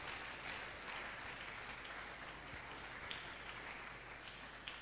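Sustained applause from a crowd welcoming Reverend Mike and Reverend Funke Rabo at NCC, a dense, steady wash of many hands clapping with no pauses, holding an even loudness throughout with occasional sharper claps standing out.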